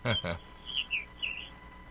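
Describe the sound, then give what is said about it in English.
A brief burst of voice, then three short, high bird chirps in quick succession, clear over a faint background hiss. “I heard chirping had some birds.”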